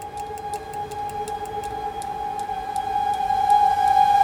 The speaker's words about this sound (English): Steam whistles had been used on locomotives since the 1830s, their plaintive linear cries a mournful counterpoint against the percussive ostinato of piston and track carried for miles.